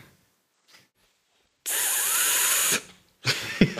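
An espresso machine's milk steam wand lets out a loud, steady hiss for about a second, then a shorter burst of steam follows with a brief thud.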